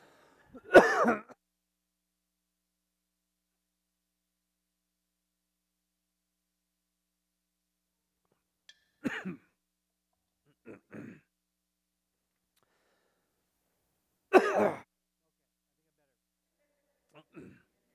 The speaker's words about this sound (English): Oh man, I drank water and I started coughing.